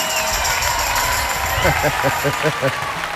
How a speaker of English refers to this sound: On a very old song with my ex-husband actually singing, so I'd like to give a round of applause